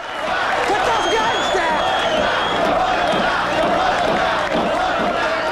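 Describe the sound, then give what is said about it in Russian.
A large outdoor crowd gathered around a bank cheers and shouts continuously, a dense roar of many voices with scattered whoops rising above it, loud and sustained throughout. “Толпа вокруг банка приветствует его.”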